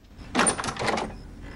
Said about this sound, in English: Hearing a knock at the door, she opens it to find Pete standing there.